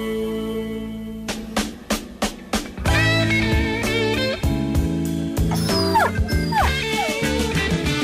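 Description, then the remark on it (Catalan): A dog barks a few sharp times in quick succession, then lets out high, sliding whimpers and whines over a steady musical backdrop, clear. “El gos, però torna amb els discos.”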